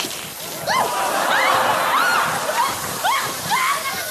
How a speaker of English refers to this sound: Oh, I'm walking on a waterbed. This is harder than it looks.